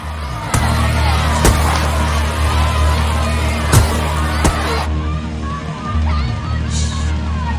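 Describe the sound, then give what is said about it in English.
Muffled, distorted shouting from a crowd of women's liberation protesters comes through a tannoy in the ladies' dressing rooms, a steady hubbub punctuated by a few sharp thuds and bangs, as they stand in a theatre's stalls and circle and throw flower bombs at Bob Hope on stage. “Their protest is heard over the tannoy in the ladies' dressing rooms.”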